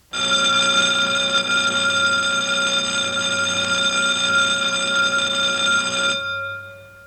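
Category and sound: signal or alarm, school bell ringing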